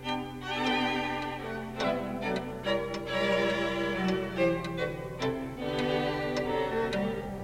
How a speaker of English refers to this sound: Prince Esterhazy liked this tune by Haydn so much, he ordered that it be built into the sounding board of a musical clock. And it played in the court on the hour. And so here we are playing it for you now, because it is on the hour, 9 o'clock.